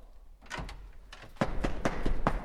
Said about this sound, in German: Türe auf. Einer raus. Einer rein. Vierter sein. Türe auf.